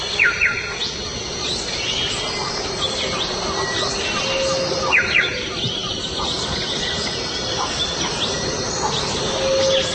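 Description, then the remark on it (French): Amazon rainforest ambience: a steady wash of insects with chirping bird calls, over a continuous low roaring rumble from a band of howler monkeys waking up very far off. “Donc très loin, il y a encore à nouveau une bande de singes-hurleurs qui se réveillent. C'est vraiment la forêt tropicale, l'Amazonie dans toute sa pureté.”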